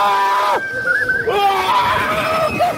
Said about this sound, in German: Wie er schreit, Alter.